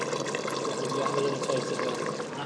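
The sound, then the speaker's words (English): Port and Madeira sauce bubbling in a pan, a steady, dense fizz of tiny pops and gurgles that holds at an even level for the whole stretch. “And that that's all bubbling away here. You can hear this bubbling.”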